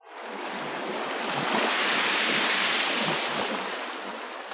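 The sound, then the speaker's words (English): A steady, roaring rush of surf as waves crash and break against jagged coral reefs lying hidden just below the surface, swelling to a peak in the middle and easing slightly toward the end, with no voices present. “However, the roar of the waves crashing against the jagged coral reefs that lay hidden just below the surface made them reconsider.”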